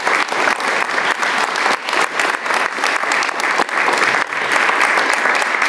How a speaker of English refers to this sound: give her a hand of round of applause.